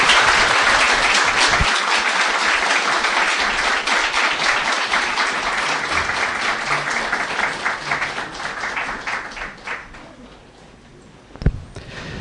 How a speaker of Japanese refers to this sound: それではここで本日講師を務めになられました長井会長が退席をされます。今一度盛大な拍手を持ってお送りしたいと思います。